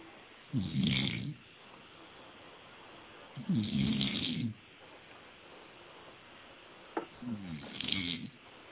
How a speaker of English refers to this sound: I think I hear him snoring.